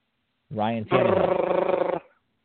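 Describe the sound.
A voice mimics a drum roll: a short voiced lead-in, then about a second of rapid, rattling rolled-tongue trill, loud, ending abruptly with no other sounds.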